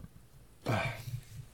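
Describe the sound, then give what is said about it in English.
A single low, guttural burp erupts abruptly after a moment of quiet, rumbling briefly before trailing off into faint low noise. “I just have to burp.”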